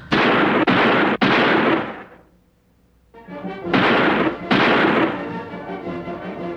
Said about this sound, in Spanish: En esas andaba, con la mente ocupada en otras cosas, cuando escuché unos balazos.